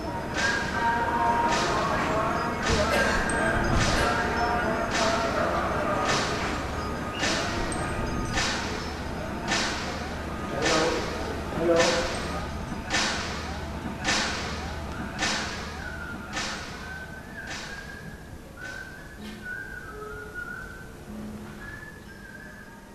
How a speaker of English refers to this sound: So like a lot of the other videos, the bells that you're hearing are the bells from the Church of the Holy Sepulchre, which, houses these various stages of the Passion.